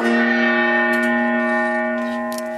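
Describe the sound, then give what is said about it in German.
A single strike of a traditional gong, struck before a prize draw, rings out with a rich, shimmering tone that sustains and slowly fades over a couple of seconds, heard clearly on its own without any talking. “Dafür schlagen wir jetzt einfach den traditionellen Gong.”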